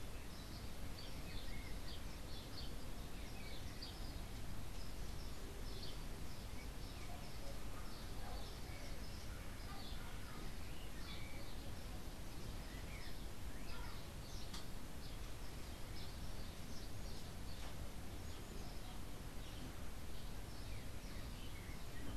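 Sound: birds chirping outdoors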